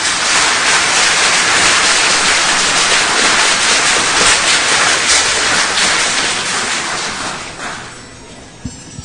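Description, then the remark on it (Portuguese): Steady, loud applause from an event audience for the CEPED secretary and the president of FAPEAM, the Amazonas State Research Support Foundation: a dense crackle of many hands clapping at once that holds for about seven seconds and then thins out and fades near the end. “agradecemos à secretária da CEPED, senhora Vânia Sueli de Melo e Silva, e a presidente da Fundação de Amparo à Pesquisa do Estado do Amazonas, FAPEAM, doutora Maria Olívia Simão, para quem pedimos uma salva de palmas.”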